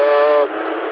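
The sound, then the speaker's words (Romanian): A bus at a bus stop next to a terrace gives a loud, steady horn-like tone rich in harmonics. After about half a second it breaks into a rougher, hissing rush of air. No one speaks. “Suntem undeva pe că ăștia au terasa pe aici, lângă o stație de autobuz și na, se aud autobuze.”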